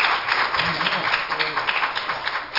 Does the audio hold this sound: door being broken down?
no